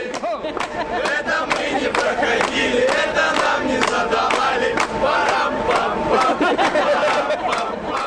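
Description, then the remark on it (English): Dozens of cadets lined up along the railing of a ship in Kodiak sing together loudly and steadily to a welcoming crowd standing on the pier; their male chorus blends with crowd noise and scattered shouts throughout. “But the translated Kodiak 2 hello welcome didn't stop the dozens of cadets from lining up along the railing of the ship and singing to the welcoming crowd standing on the pier.”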